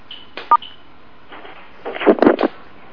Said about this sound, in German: So, dann werde ich die Telefonleitung auch öffnen.